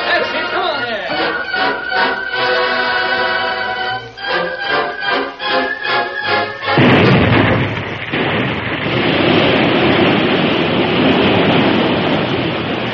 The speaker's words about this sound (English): the blasts were fired. The river gushed and geysered, then settled into a new course, rushing down a different side of the hill.